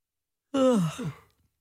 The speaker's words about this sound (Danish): Bliver du på nogen måde smittet af gabet?